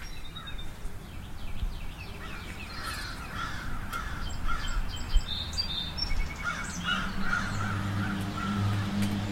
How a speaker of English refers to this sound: That's unusual, because we don't usually get crows this close to the house.